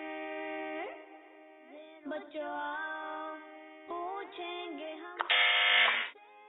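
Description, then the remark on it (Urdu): A game-show answer buzzer blares in a run of loud, harsh electronic tones that shift in pitch, ending in a bright, sustained blast, with no one speaking over it. “اگر آپ سے جواب نہیں آتا تو آپ نے بزر نہیں بجانی، اس بات کا دھیان رکھیں.”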